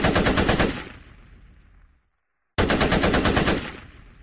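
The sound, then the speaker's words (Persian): Two loud bursts of rapid gunfire, each a fast rattling volley that fades out, separated by a brief silence, in an exchange of fire with Iraqi troops. No one speaks. “عراقی ها شروع می کنن، چند تیر از جانب آنها، یک خشاب از این طرف، دوباره یک خشاب از طرف آنها و چند تیر از جانب ما.”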